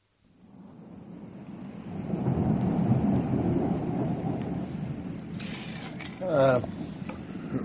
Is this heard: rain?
yes